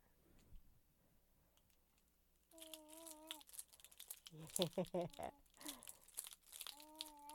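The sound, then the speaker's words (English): Toy keys on a small ring rattle and jangle in quick, irregular shakes, a bright clattery burst that continues for several seconds while a small child coos and vocalizes over it. “Those are like little rattles, huh? They're fun to shake.”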